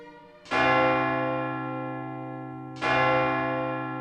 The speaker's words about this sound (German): Der Glockenturm der Kirche befindet sich direkt neben dem Hotel. Das heißt, jede Stunde Glockenschläge.